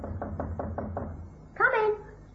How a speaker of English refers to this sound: It was at 7 o'clock that night that I knocked on her apartment door.